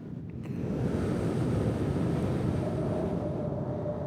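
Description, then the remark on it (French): A stormy sea churns with a dense, constant roar of raging waves striking against a lighthouse, rising quickly after a brief quiet start and staying loud throughout, mixed with wind. “c'est la tempête là autour de nous ? Oui. Qu'est-ce que tu vois ? Les vagues qui se déchaînent.”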